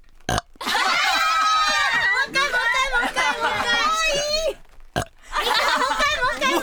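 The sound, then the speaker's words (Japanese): A long, loud burp drawn out, then a second shorter one after a brief pause, produced on demand by someone who can burp at any time, with excited voices and laughter piling on top throughout. “いつでもゲップが出せる。”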